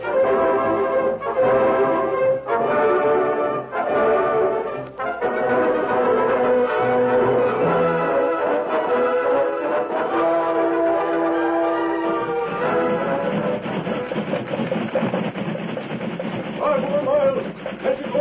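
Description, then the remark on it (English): A steam train runs at speed with its safety valve tied down, its steady mechanical roar layered with sustained, ringing whistle-like tones and clanging bell sounds that continue loudly throughout. “That horse can beat this steam engine any day.”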